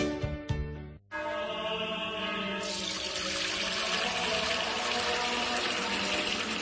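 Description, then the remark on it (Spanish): After a short musical sting and a brief pause, Fuente Umbría spring water pours steadily into a container, a continuous splashing rush that grows brighter and fuller as it goes. “es que no nos quedaba agua bendita. Agua pura de manantial Fuente Umbría.”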